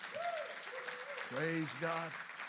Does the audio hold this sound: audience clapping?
yes